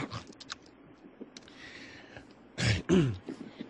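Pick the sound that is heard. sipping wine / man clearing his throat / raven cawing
man clearing his throat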